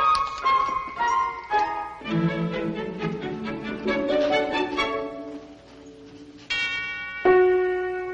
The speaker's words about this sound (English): Ring the bell again. Huh? What for? No, just go ahead. Ring it.